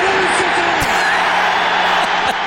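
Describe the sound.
A dense, roaring stadium crowd at an NFL game cheers and yells nonstop, with scattered whoops and shouts rising out of the loud, steady wall of voices.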